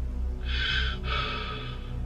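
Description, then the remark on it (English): Heavy breathing heard through a hotel room phone line on a call that appeared to come from reception: a long inhale followed directly by an even longer exhale, breathy and hissing over a steady low electrical hum, with no words spoken. “But all I could hear was heavy breathing.”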